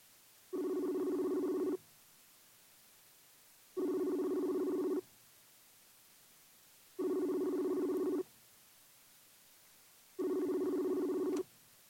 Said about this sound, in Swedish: Jag vet att David är aktiv på Messenger nu. Vi ringer honom på Messenger.